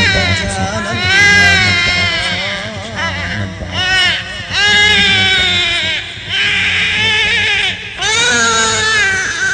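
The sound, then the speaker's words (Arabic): An infant in a cradle wails loudly in long, strained bursts, each cry rising and falling in pitch with short catches of breath between them, continuing without pause throughout. “سائر في المهد يبكي طرفه نحو السماء يرسل الأنظار شزرا وجهه فيه شقاء.”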